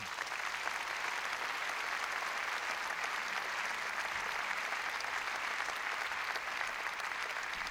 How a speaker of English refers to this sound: So please give a great round of applause and a welcome to